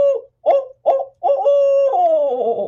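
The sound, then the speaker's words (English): A person imitates a barred owl: four short, clipped hoots in quick succession, then a long drawn-out hoot that slides downward and trails off. Clear and loud, with no other sounds. “So the male is more, oh, oh, oh, oh, oh, oh, oh, oh, and the right. female is, oh, oh.”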